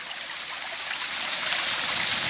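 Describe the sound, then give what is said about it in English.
Water flowing steadily, a continuous bright rushing and trickling like a stream, fairly loud, with no voices. “Now, if you combine one ant with hundreds of other ants, well, you get a force to be reckoned with, as nothing can stop these incredibly driven insects, not even the water.”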